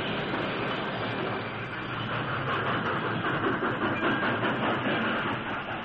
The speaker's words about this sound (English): As the Lone Ranger swung down from the engine cab, the passenger train slowly approached and stopped.